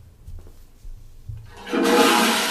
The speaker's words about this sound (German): Stopp! Eine Klospülung! Jetzt war aber ich erst einmal Stopp. Stopp? Das ist aber kein Stopp, das ist eine Klospülung.